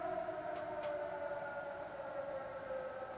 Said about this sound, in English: Oh, you can hear in the background, it is 12 noon here in San Francisco. That is the earthquake alarm. I'll let you bask in its glory.